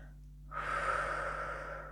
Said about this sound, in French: Comment percevons-nous notre respiration? Et justement, avec cette respiration, nous pouvons permettre à notre corps de se relâcher davantage.